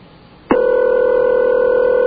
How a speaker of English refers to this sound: That's what this person's going to hear. I'll give two more rings. One more ring now.